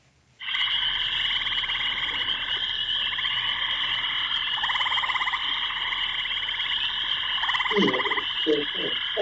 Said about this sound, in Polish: Żaby. Dobrze, a posłuchajmy jeszcze. Tak, to rzeczywiście żaby. Żaby, które gdzieś wieczorem koncertują. Rzadko można usłyszeć taki dźwięk.